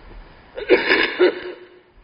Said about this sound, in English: Excuse me. My cough just started 2 days back. Every time I got cough, it take a while. But never mind, I think I should be okay before the retreat.